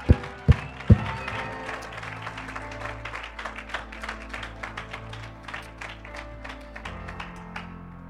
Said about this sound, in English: Woo! Come on, clap your hands.